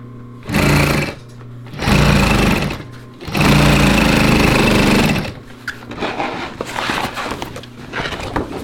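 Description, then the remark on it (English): An old industrial sewing machine whirs loudly in three bursts of rapid stitching on sail seams, each stopping abruptly, followed by a quieter stretch of low mechanical rattling and clicks. “And I've definitely spent days sitting at the sewing machine calculating in my head how many miles of stitching I happen to be doing at that time.”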